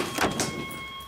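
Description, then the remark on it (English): A locked security door is tried, giving two quick metallic clunks as the handle rattles without opening, over a steady faint electronic hum. No voices. “It won't open because it's a security door.”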